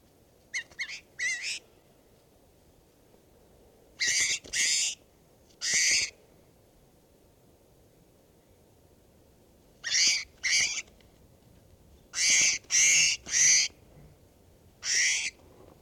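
bird call

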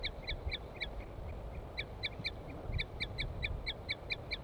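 female bird tooting call

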